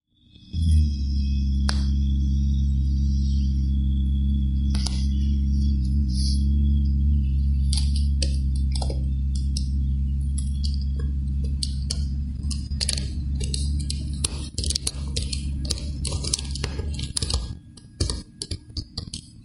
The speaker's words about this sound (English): But before moving on, I'd like to play a short sound clip that you created for it, featuring your experimentation with recording moving fingers on the keyboard and also breathing and sounding.